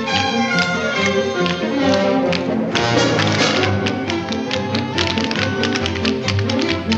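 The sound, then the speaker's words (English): Rhythmic shuffling and tapping of dancers' feet in a synchronized soft-shoe routine, a line of dancers swinging canes, shuffling and kicking their feet, the step pattern repeating steadily over continuous orchestral music at a moderate, even loudness. “The Americans dance out from between the rows of soldiers and line up in a synchronized soft shoe.”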